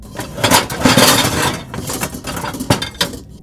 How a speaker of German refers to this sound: Es scheint niemand hier zu sein, doch dann fällt ihnen ein klappernder Suppentopf auf, der umgedreht auf dem Boden